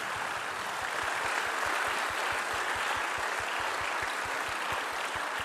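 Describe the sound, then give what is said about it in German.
Audience applause fills the whole stretch, a dense steady patter of many hands clapping at an even loudness, with no voices breaking through. “Ein Applaus”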